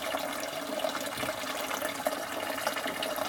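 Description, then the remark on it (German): Spring water from a mountain spring runs in a steady, continuous stream with a hollow, filling quality as it pours into a bottle, moderately loud and unbroken with no voices. “Hier kann man auch selber abfüllen.”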